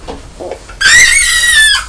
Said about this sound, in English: Oh no, you're squealing then because you're thinking of Row Row Row the Boat. It's too noisy, that tells. Yes. Isn't it? Much too noisy.